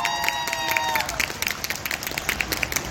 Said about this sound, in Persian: یه دست بزنید افتخارشون.